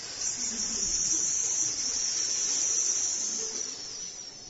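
Venomous snakes in silos hissing in a steady, continuous high-pitched hiss that holds at an even level for several seconds, with no talking over it.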